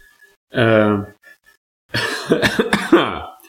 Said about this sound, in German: Jetzt hab ich gehustet, jetzt nehme ich noch einen Schluck.